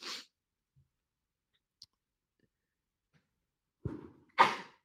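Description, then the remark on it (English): A sharp sneeze near the end, a short gasping lead-in followed by an explosive burst. Before it, a clipped breathy burst at the start, then near-silence with a couple of tiny clicks. “She's sneezing.”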